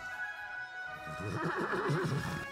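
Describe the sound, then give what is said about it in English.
A horse whinnies in one long, quavering neigh that rises in intensity toward the end, with no one speaking. “Come on, you stupid horse.”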